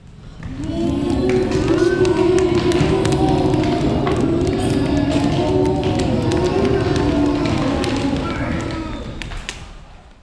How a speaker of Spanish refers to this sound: Mientras admiraban las pinturas, sintieron un temblor. Una manada de bisontes pasaba corriendo cerca.